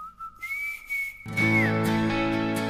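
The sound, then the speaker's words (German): Someone whistles a clear, sustained melody line, holding a high note, then a full instrumental backing track comes in loudly underneath as the whistled tune continues and glides downward. “an der Pfeife.”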